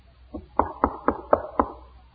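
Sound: knocking on a door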